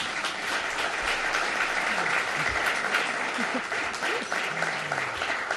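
A crowd applauds steadily, a dense wash of clapping that holds at an even level for several seconds, with a few voices faintly mixed in underneath.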